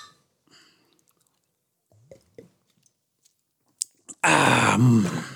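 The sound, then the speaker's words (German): Two quick, sharp clinks of glasses touching in a toast, then loud drinking sounds as cider is sipped and swallowed, after a few quiet rustles. “Aber Prost, Manuel. Prost, ja, wir haben hier Cider. Also Prost.”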